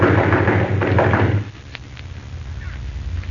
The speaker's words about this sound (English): I'll bang on the door.